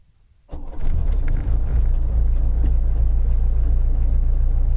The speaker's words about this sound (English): Listen to that engine purr. That is something. It is pretty magical. I like the sound, and I tend to listen to that.